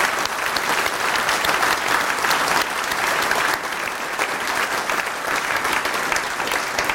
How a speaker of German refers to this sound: Dort hinten hockt Technik, auch vielleicht für die mal einen lauten Applaus an der Stelle.